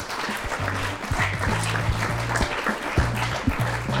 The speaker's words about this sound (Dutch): Dank aan het live publiek hier in Leersum. Nog een keer een groot applaus voor jou.